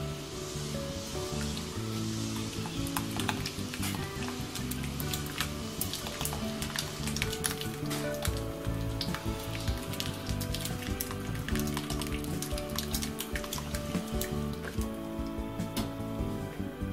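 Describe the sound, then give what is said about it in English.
Steady bubbling and sizzling of broth simmering on a stove over low heat, with scattered clicks and scrapes of a spoon stirring as three whisked eggs are slowly poured in, continuous throughout with no talking. “You want to get 3 eggs, whisk them, and then you want to pour them in here slowly while stirring with a spoon.”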